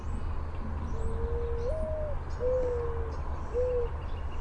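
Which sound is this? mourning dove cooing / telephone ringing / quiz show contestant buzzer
mourning dove cooing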